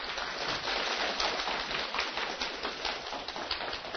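An audience applauds steadily for several seconds, a dense, even crackle of many hands clapping at once with no voices over it.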